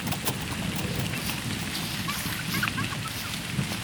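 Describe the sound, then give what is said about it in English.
A steady rainstorm pours down in a forest, a dense, even hiss of falling rain with a low rumbling undertone and scattered drip sounds, continuous throughout with no voices. “And while a nice storm was exactly what he needed, his host had other ideas.”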